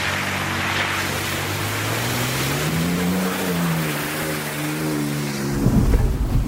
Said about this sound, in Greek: Το πρώτο σπλάτς. Το σπλάτς είναι που περνάμε με ταχύτητα μέσα από νερά.